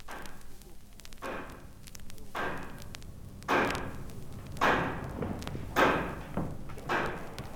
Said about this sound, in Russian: Красная площадь. Так прислушайся, как бьется сердце площади, как стучит маятник курантов, бой которых командует движением времени нашего века.